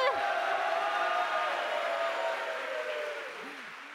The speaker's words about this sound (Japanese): 西村ひろちょさんです。拍手。